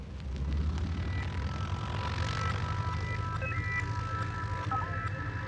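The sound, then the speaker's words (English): A steady, loud airplane engine drone with a deep rumble and faint whining tones that shift slightly as it passes overhead, continuous throughout with no voices. “An airplane is a vehicle with wings and one or more engines capable of moving through the air.”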